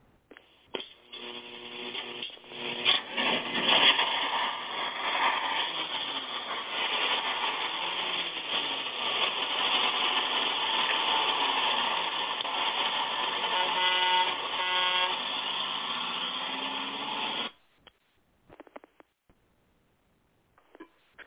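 The engine of the Six Eyes Gospel Bus rumbles and builds steadily for over fifteen seconds as it pulls out of the station, while a loud, sustained horn blares over it, then both cut off abruptly, leaving a few faint clicks.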